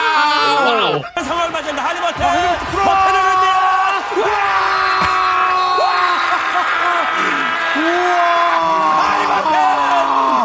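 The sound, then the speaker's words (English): A large crowd yells and screams a drawn-out "wow" together, loud and sustained for several seconds, with rising and falling voices blending into a chaotic, excited roar. “I mean, they just are screaming.”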